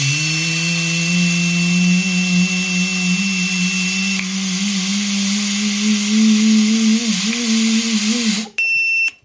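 A long steady breath into a car's breathalyser interlock during an RAC demonstration, with a low droning tone that creeps slightly upward in pitch for about eight seconds, then a brief pause and a short high-pitched electronic beep signalling a pass.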